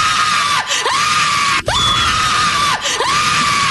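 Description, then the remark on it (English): A woman screams hysterically in long, shrill, sustained shrieks, loud and piercing, broken only by two brief gasping breaks as her voice dips and climbs again. “How about a woman screaming hysterically?”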